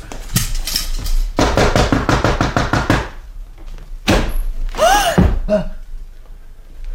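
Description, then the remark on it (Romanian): A rapid, steady burst of about a dozen loud knocks on a door, then a heavy thud and a short, gasping vocal sound. “Bine, bine, bătaia în ușă merge.”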